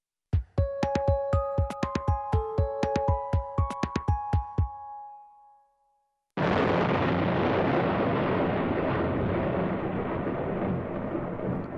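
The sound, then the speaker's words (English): A quick run of plucked, bell-like musical notes fades to silence, then a sudden loud thunderclap bursts in and rolls on as a steady, roaring rumble until the end. “Thunder and lightning.”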